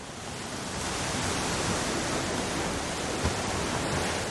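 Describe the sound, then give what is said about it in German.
A continuous, full roar of ocean surf with a steady hiss, swelling slightly early on and then holding an even level, with no distinct individual wave crashes and no voices. “Es folgt das Tonbeispiel Meeresrauschen, Brandung.”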